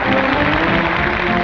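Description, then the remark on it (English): A steady wash of audience applause, dense and continuous with many hands clapping at once, holding an even loudness throughout with no voices standing out. “That noise is applause, isn't it?”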